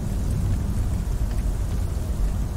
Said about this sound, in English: Okay, well, it's kind of raining out here.